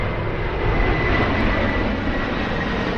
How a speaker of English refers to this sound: What kind of an airline is it? I don't know what kind of an airplane I'm flying, but it's a big one. Everybody all aboard.